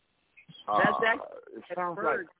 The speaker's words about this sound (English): I think that's the birds coming through from my computer.